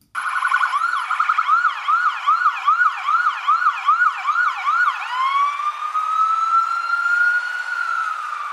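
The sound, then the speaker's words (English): A loud ambulance siren yelps in rapid rising-falling sweeps, then shifts into a long, slow wail that holds steady, as a patient is taken to the ER; no voices are heard. “So we're going to go ahead and put you in the ambulance and take you to the ER so we can see what's going on.”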